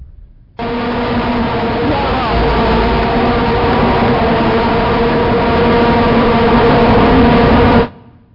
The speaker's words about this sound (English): Those were vuvuzelas. Do you know what a vuvuzela is? The little horn things they had at the soccer games that they finally outlawed because they were so noisy.